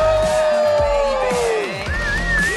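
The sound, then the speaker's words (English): A crowd at the Museum of Broadcast Communications cheers and hollers loudly and continuously, with a long descending whistle sliding down in pitch and a shriller wavering whistle near the end. “Live from the Museum of Broadcast Communications as the crowd goes wild.”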